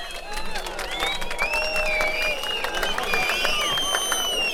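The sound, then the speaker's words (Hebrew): A crowd claps steadily and densely throughout, with several shrill whistles rising and falling over the applause. The sound stays loud and lively without any clear speech. “בעיר התורה והחסידות לא שורקים, מותר למחות כפיים.”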